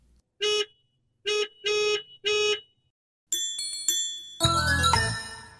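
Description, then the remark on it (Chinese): Taxi horns honk four times in quick succession, loud, followed by a bright jingling chime and a rush of busy road traffic noise as three taxis drive by. No one speaks. “三辆计程车。”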